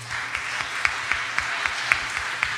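An audience applauds steadily, a dense patter of many hands with a few sharper, louder claps popping out at fairly regular intervals. There is no talking.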